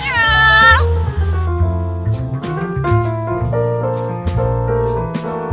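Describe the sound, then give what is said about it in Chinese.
A single drawn-out cat meow rings out at the start, loud, then a gentle melodic music passage with sustained notes carries on for the rest. “至于喵星人，相信会有非常多的粉丝，粉丝量可以跟狗狗有的一拼。”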